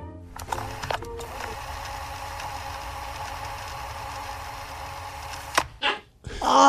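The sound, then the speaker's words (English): A cassette tape rewinds with a steady, buzzing mechanical whir for several seconds, then stops with a sudden thump, followed by a brief rising, high-pitched whine from the straining motor. “The cassette rewinding faster and faster and faster until that final thump, and then a whine as it tries to keep rewinding and can't.”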